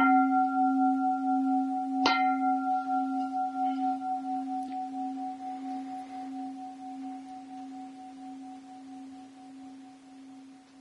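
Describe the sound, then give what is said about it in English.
A resonant bell is struck once and its deep, steady tone with bright overtones hums on, slowly fading over about ten seconds with no voices. “So I ring the bell.”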